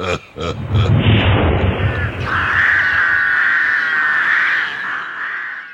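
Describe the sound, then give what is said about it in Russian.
A few sharp thumps open into a loud, rushing roar of air, which gives way to a steady, high whistling howl as an old fireplace blasts a powerful gust up its chimney. “Соберись силами так дунь в трубу, чтобы навсегда прогнать этих ворон.”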